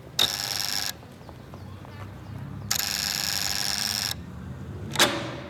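A house doorbell rings with a harsh, buzzing tone: two long rings, each lasting around a second, separated by a pause, then a brief final jab, over a low background rumble.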